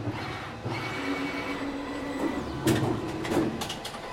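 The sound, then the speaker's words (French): A t-shirt printing machine runs steadily, a mechanical hum with a faint whine, broken by a few louder clattering bursts toward the end. Nobody speaks. “Donc là, le t-shirt est imprimé, l'encre est encore humide”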